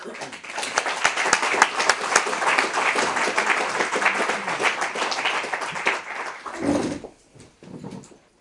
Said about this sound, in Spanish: Entonces, bueno, pues un poco, pues un aplauso para ellos y muchas gracias.